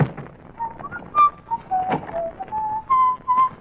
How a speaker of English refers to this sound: you whistle like a canary.